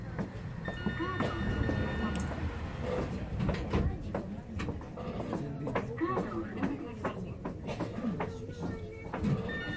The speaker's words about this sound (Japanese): じゃあ、ドア閉まります。